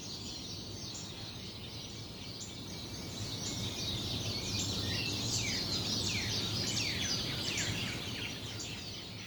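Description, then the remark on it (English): A dense chorus of birds chirps and sings continuously, many overlapping quick calls, over a steady low rumble of background noise, with no voices. “We're going to get some of those birds for the monastery.”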